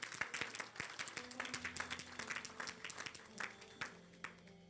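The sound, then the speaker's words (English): An audience in a church applauds in a steady, dense patter of many hands clapping for several seconds, fairly soft overall, with faint sustained low tones humming underneath. “I think you wanted to clap, but you just missed it.”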